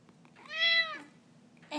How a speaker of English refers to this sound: Meow. And then what happened? Meow. Go on, tell me more details.